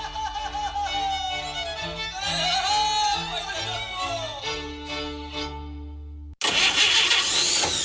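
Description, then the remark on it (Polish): An old car engine being started, the starter whining and grinding steadily for several seconds before cutting off, followed by a sudden loud burst of rough, noisy engine sound. “Zostaw tego grata w spokoju. Teraz w naszej Unii mają niski procent na kredyty samochodowe.”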